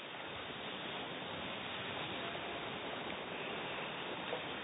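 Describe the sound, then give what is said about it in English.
A stormy sea roars with a steady, dense rush of wind and surf, continuous and fairly loud throughout, with no distinct pauses between waves and no voices. “See, the wind's blowing, the waves are crashing.”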